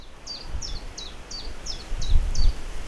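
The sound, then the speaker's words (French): A common chiffchaff sings a steady run of about seven sharp, evenly spaced high notes, clear, over gusty low wind noise that swells toward the end, at Pont-Menu in Finistère, France. “Et le pouillot vélo se fait entendre dans le vent.”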